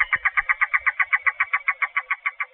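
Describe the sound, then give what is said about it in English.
A yellow-billed cuckoo, a resident of Atlanta, calls alone: a rapid, steady string of wooden, clucking notes, roughly seventeen in quick succession, clear against a quiet background. “Here's a message from the yellow-billed cuckoo, an elusive resident of Atlanta.”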